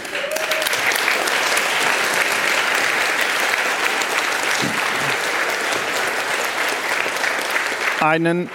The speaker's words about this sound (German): Also, auf jeden Fall möchte ich euch bitten, einen Riesenapplaus für die ganzen Leute, die geholfen haben und helfen werden. Und wenn ihr das selber seid, ihr dürft auch für euch selber klatschen.